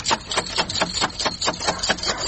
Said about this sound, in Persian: در این نصف شب در روزه را کی می زنه؟ او زده چی گپ هست؟ در این نصف شب بونگ بونگ کده می ری او مرده که بخی که دروازه اولی تک تک شد چی؟ دروازه اولی تک تک شد؟